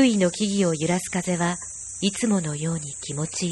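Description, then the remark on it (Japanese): A steady, shrill drone of cicadas runs continuously beneath a calm voice speaking, a high buzzing bed that never lets up. “早朝の道に人の気配はなく、セミの声が聞こえ始めている。”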